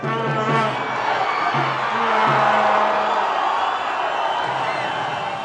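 A large soccer stadium crowd of Mexican fans roars and cheers continuously at a match between Mexico and the U.S., cheering every pass and shot, a dense wash of many voices with whoops and shouts rising out of it, swelling louder in the middle before easing slightly.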